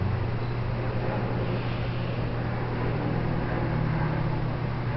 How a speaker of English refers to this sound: Listening to the airplane and loving the sound of life in motion. People traveling.